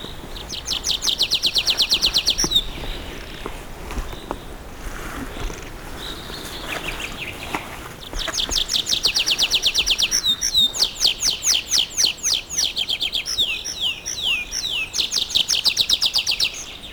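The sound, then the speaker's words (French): Birds chirp and trill busily in a fir forest, several calls overlapping in bright, rapid bursts that pause briefly and then return even denser, fairly loud with no voices. “quasiment pour seule compagnie, ces oiseaux, ces sapinières.”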